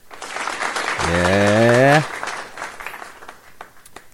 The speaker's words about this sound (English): Applause. Applause, applause, applause.